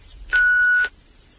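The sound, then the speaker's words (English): A single steady electronic beep, about half a second long, loud and clear, like an answering machine tone, followed by near silence. “Please start talking at the sound of the beep.”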